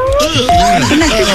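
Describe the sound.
A woman's voice imitates a cat purring in a voicemail message, a continuous rolling vocal rumble with a wavering pitch and a brief sustained tone partway through, heard on its own.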